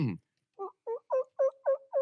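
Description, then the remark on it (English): A turkey gobble imitated on a turkey call: after a brief harmonic burst at the start, a quick rhythmic run of six clucking, yelping notes, each louder than the last, with no talking. “do you have a turkey call? Let's hear it.”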